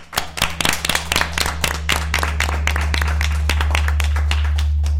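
Applause from a group, starting with a few sharp separate claps and quickly building into dense, steady clapping that continues throughout, with a low constant hum underneath and no talking.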